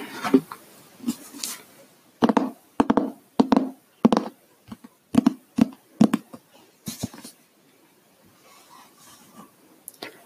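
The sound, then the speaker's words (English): A hardcover book being handled and tapped, with a run of sharp taps and knocks in an uneven rhythm, followed by softer rustling and scraping as it is moved. “various objects, such as a hardcover book.”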